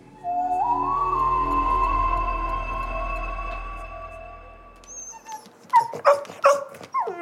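A dog named Nick whines in one long, steady, high-pitched note that slowly rises, then breaks into several short whimpering yelps, fairly loud, as it is shooed out of a bathroom, with no talking.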